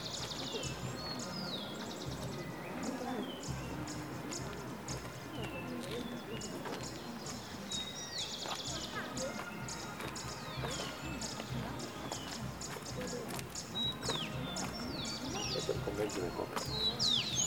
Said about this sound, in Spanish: El rozar de las hojas de los árboles, el trinar de las aves, acompañan el caminar, las palabras y la banda de alguna festividad en esta tarde en el departamento de Junín.